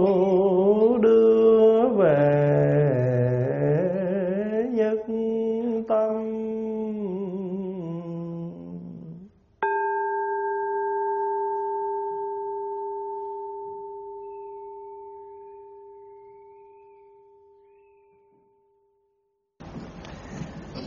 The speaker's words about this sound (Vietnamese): Listen, listen to this wonderful sound. Brings me back to my true home. Lắng lòng nghe, lắng lòng nghe. Tiếng chuông huyền diệu